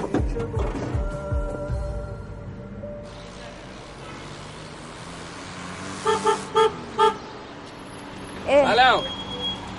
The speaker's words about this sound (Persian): من داشتم رد میشدم شما رو دیدم گفتم این بوق بزنم سلام کنم بهتون.